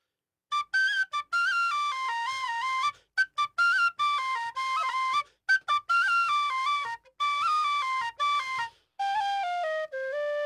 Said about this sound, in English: a tin whistle player, joining us live here in studio for a celebration of St. Patrick's Day right here on the Maggie Dawn Show on the Civic Media Radio Network.